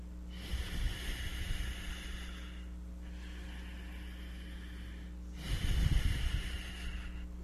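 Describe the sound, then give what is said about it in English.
Two long, forceful breaths pushed through the nose as a breathing exercise, each a loud rushing hiss lasting a couple of seconds, separated by a pause over a steady low hum, with no talking. “So this breathing, in the beginning you have to remember it.”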